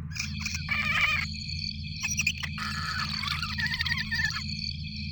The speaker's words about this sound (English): What the hell is that? Analyze the audio. Hang on. Sounds like giant crickets.